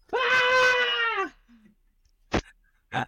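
A boy in bed screams in one loud, sustained, high-pitched wail lasting about a second that dips at the end, followed by a quiet pause and two brief, sharp noises.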